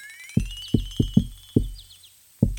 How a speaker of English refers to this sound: I knock, you know. My signature knock.